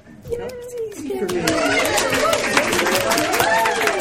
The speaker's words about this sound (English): As you may have noticed from the sound of people clapping, which doesn't always happen when we record, this is the live episode of the Squeecast. We are recording once again live at Convergence